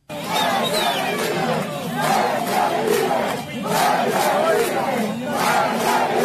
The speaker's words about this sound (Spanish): Con gritos de patria y vida, libertad y no tenemos miedo, el 11 de julio de 2021, el pueblo cubano de manera pacífica y masiva decidió protestar contra la gestión gubernamental.